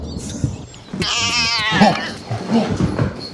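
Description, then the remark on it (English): A calico cat lets out a loud, drawn-out wavering yowl, a caterwaul lasting over a second, followed by a few shorter meows. “Oh, it was like a calico.”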